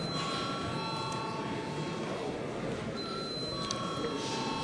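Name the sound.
parliamentary session bell ringing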